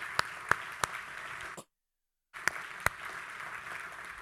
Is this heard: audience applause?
yes